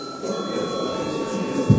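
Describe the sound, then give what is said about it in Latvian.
A parliamentary chamber bell rings continuously at a steady pitch for the whole moment, rung to call a break in the session, fairly loud against a murmuring room, with a brief thump near the end. “Tātad ir priekšlikums doties pārtraukumā. Lūdzu zvanu.”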